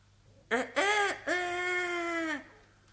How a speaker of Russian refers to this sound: Стукнула полночь. Спел петух кукареку.